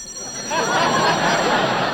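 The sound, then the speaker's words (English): A telephone rings with a long-distance call from Kansas City for Jack Benny, in a continuous, rattling burst that starts after a brief pause and carries on steadily, loud and busy, over a faint background hiss. “Answer the phone.”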